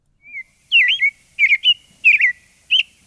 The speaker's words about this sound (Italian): è tornato Gennarì, è il pettirosso, la pettirossa, non sappiamo bene, che da alcuni anni si fa vedere qui nel cortile di Radio Popolare, nella micro oasi verde che ho, insomma, abbiamo costruito per loro.